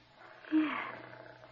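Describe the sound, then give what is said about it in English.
A kitten purring while being patted: a soft, steady low rumble that swells slightly partway through and continues evenly to the end, with no voices over it. “Just pat her and listen to her purr.”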